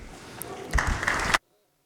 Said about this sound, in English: Today is Clerk Recognition Day. And I think we should all give our clerks a round of applause.